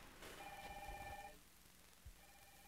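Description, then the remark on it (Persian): A telephone rings for an incoming call once with a bright electronic trill lasting about a second, then a faint second ring begins near the end, with a soft low thump in between and no talking. “بله، یک بار تلفن داریم، به اتفاق بشنویم.”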